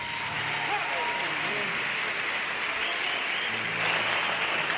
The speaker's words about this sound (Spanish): Bravo por ese remate. El remate muy aplaudido, por el Gran Teatro Falla, una reivindicación muy necesaria.